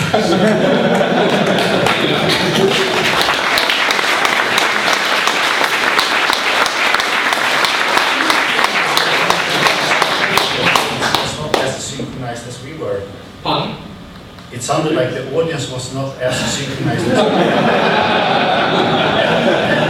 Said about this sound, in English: It was yesterday, so we have almost 40 milliseconds of latency. So I will try to clap together